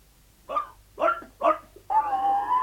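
A dog, Montmorency, lets out three short, high yips in quick succession, then breaks into a longer, wavering whimper that rises and falls in pitch. No one speaks over the sounds.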